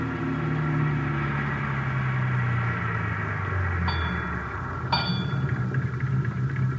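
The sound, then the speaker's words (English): A car engine rumbles steadily as it is driven to a service station on Vermont Avenue, its low drone sinking in pitch as the vehicle slows, followed by two brief high squeals near the end. No one speaks. “we drove to the service station on Vermont Avenue where Best was supposed to be employed”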